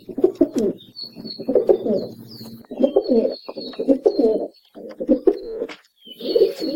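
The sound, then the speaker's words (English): A rock pigeon's low, throaty display coo, used to attract mates, repeats in rolling, pulsing phrases, with fainter high bird chirps and whistles scattered in the background. “Their primary song is a display coo, which they use to attract their mates and is accompanied by a puffing up of their throat feathers and a series of courtship bows.”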